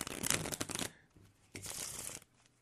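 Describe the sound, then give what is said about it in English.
A deck of cards being shuffled, two quick riffling bursts of crisp, papery flutter separated by a short pause, with no one speaking. “Let me shuffle here.”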